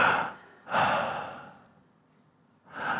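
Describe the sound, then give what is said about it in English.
A voice imitates heavy, raspy mechanical breathing like Darth Vader: a long hissing inhale and exhale, then a fresh breath starting at the end, fairly loud with no talking. “I hear my wife breathing, all right? like Darth Vader, right?”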